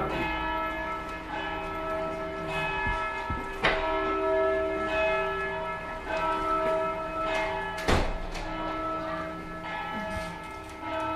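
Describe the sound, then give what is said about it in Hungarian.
A church bell rings continuously from outside, its rich overlapping tones swelling and lingering with steady repeated strikes, fairly loud with no voices present. “Ezt becsuknád most arra az 5 percre, amíg ez... Tudom, csak addig, ameddig a harang szó, aztán nem...”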